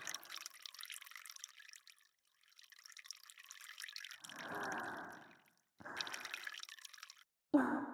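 Urine trickles and splashes into a bottle in several uneven bursts, swelling to a fuller gurgling stream midway before stopping, then one last loud spurt.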